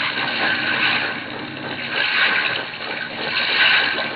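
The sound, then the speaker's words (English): A seaplane's motor runs rough on the water, throttled out and shaking as if something has gone wrong in it, a loud, steady rushing roar that swells and dips in slow surges, with no voices. “She throttled out and still she shakes. Yeah. Must be something gone haywire in the motor”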